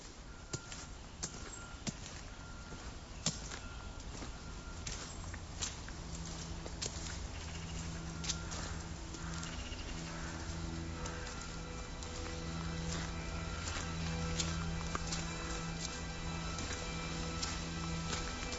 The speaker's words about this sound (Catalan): Aquesta era una introducció que sentíem a les passes de qui era aquest? Del que serà el primer protagonista de la història. I el protagonista primer de la història, que és un llenyataire, és la persona que caminant pel bosc,